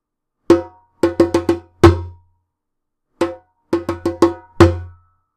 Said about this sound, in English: Drumroll, please. Yeah, that's an actual drum. I have a drum. I got a djembe for Christmas.